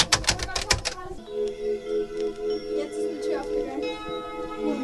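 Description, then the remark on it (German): A quick burst of loud, clattering keystrokes on an old keyboard fills the first second, then gives way to a steady, humming tonal drone that lingers to the end. “Auch eine alte Tastatur gibt's hier.”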